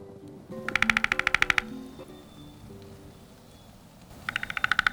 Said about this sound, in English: Hear that? That's our bird of the month for March, the downy woodpecker. The downy woodpecker is a year-round resident in Homer. It is the smallest woodpecker in North America, 6 3/4 inches long and only weighing 1 ounce.